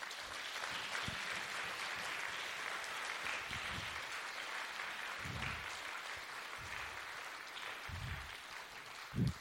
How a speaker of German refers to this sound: Das ist großartig. Vielleicht gebt ihr den Schwestern mal einen großen Applaus.